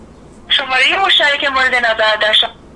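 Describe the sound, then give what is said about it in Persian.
A tinny, narrow-sounding voice plays over a phone's speaker, steady and fairly loud for about two seconds, as a call to someone in Tehran is placed on speakerphone and an automated message says the subscriber is unavailable. “ای بابا اینا میخواین من تلفنی صحبت کنم با ایشون؟”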